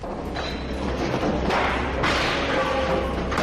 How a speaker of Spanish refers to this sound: Esto que acabamos de escuchar es un disparo. Un disparo realizado con una pistola de un policía contra un joven.